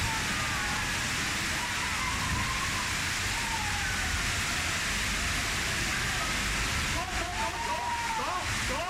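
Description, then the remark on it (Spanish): A dense, steady roar of hail pouring down in Arganda and getting into shops fills the whole recording without a break, loud, with faint voices murmuring underneath. “Estamos achicando toneladas como ustedes de granizo que se nos ha metido dentro.”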